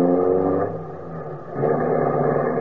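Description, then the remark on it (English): A car engine drones with a low, steady harmonic rumble, easing slightly before revving up again as the car pulls away. No voices are heard. “In the meantime, please take care of that car. It's my pride and joy.”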